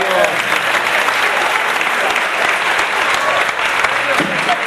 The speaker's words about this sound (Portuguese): Tá de volta, uma salva de palmas pro velho Afonso.